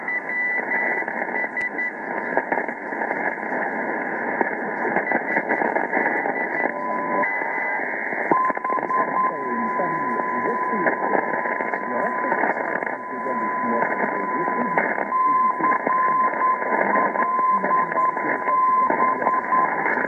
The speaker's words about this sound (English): We're hearing the CLB Carolina Beach beacon in North Carolina, and also picking up some European broadcast band. I'm at around 216 kilohertz.